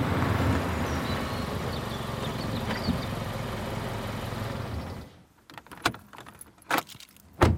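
A car engine runs with a steady rumble for about five seconds, then cuts off abruptly, followed by a few bright jingles of keys in the quiet.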